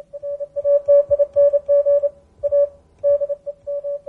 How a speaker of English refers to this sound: But they all stem back to quickly getting the message across with a very laborious method, Morse code.